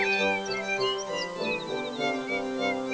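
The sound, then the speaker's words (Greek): A canary sings a quick run of bright, high chirps and trills as it flies away, over a steady tonal background, continuous for a few seconds at moderate loudness, with no one talking. “Εκείνη τους χαμογέλασε και πέταξε μακριά συνεχίζοντας το τραγούδι της. Τι όμορφη μελωδία.”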